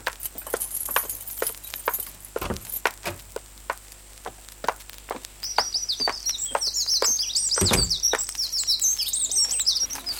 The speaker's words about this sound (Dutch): Jongen, wat gaan die beesten te keer? Ja, 's morgens vroeg zijn alle vogels druk in de weer. Ze voeden hun jongen, ze zingen het hoogste lied. Wat zijn dit nu voor vogels die we nu in de tuin horen? Nou, mussen, spreeuwen, lijsters, merels, mezen.